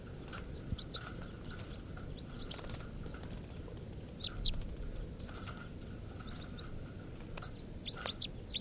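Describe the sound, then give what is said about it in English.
Test recording of two male birds, numbered 436 (type 3) and 437 (type 4): short, high-pitched calls repeat irregularly over a steady low rumble, some sharp and louder than others, with brief chirps scattered throughout and no talking. “and these are test recordings of birds 436, the type 3 male, and 437, the type 4 male.”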